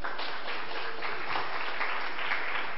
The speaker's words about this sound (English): First of all, a big round of applause for the Hammer Museum for hosting us.